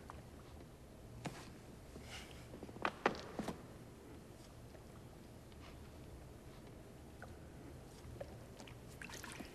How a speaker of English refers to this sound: Try putting your hand in the water.